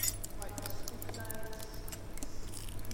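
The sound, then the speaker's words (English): Ice clinks and rattles against the fluted sides of a container in a quick, irregular run of light taps, over a steady low hum. “It's crept up round the sides, round the fluted sides, so if I could turn it out it would look quite pretty.”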